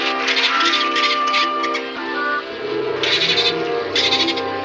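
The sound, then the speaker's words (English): Rapid, high-pitched dolphin chattering and squeaks from Flipper, the same sound effect as the gopher in Caddyshack, repeat in bursts over loud background music that plays throughout. “Same sound effects. A gopher and a dolphin.”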